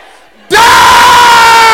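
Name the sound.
audience shouting loudly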